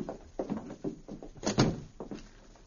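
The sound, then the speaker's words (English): A hotel room door shuts with a dull thunk, followed by a few scraping, rattling clicks of a key turning in the lock, all fairly quiet with no one speaking. “After locking the door, the two men walked away down the hotel corridor.”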